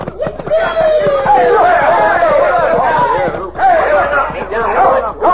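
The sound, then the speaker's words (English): A loud, dense crowd commotion on a street, many overlapping voices shouting and yelling at once as the crowd is tipped into the mud by a rope strung between two horses, a continuous chaotic hubbub that swells and dips briefly before surging again. “Look at the crowd, all tangled up in the mud.”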